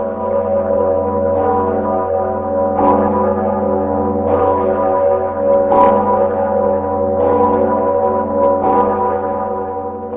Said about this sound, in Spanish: y la campana tocó también con motivo de la elección del primer presidente no comunista de Checoslovaquia después de 40 años. Václav Havel, obviamente. Y durante la visita del Dalai Lama y del Sumo Pontífice.